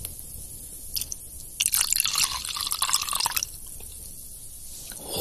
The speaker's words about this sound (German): Und dann ist es einfach Zeit für Gänsehaut. Ich gieße jetzt den Wodka auf den Babybrei.